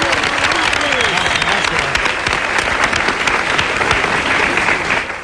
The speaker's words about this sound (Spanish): Muchas gracias. Un aplauso.